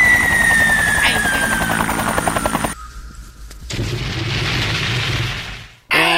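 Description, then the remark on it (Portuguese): A missile launch and explosion sound effect, a missile fired at a coconut tree: a throbbing, rotor-like whir with a thin whistling tone, a brief drop-off, then a loud, sustained roaring blast that cuts off abruptly. “se quiser que a gente mande um míssil pra alguém.”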